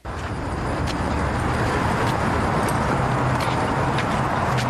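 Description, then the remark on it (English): Steady, dense street traffic fills the scene, with a bus approaching and rumbling amid passing cars. The roadway noise stays loud and constant throughout, with no voices. “The bus is coming.”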